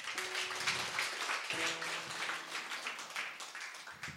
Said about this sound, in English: Can you just give her an applause